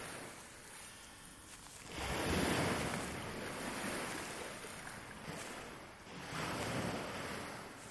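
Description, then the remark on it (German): Soft ocean waves wash onto the shore of a bright, wide sandy beach, swelling in broad rushes around two and five seconds, then receding into a steady hiss, with a light breeze and no voices. “Du läufst langsam auf das Meer zu, bis du am Ufer mit den sanften Wellen ankommst.”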